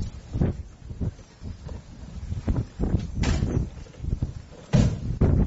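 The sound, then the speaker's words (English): A car door handle clicks and the door is pulled open, with a couple of sharp mechanical clunks over a steady outdoor rumble and wind noise. “How do I get in? Oh, door handle.”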